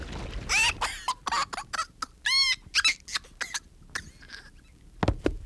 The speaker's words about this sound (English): Let's open that container, and I'll pour some of Lake L on Jane here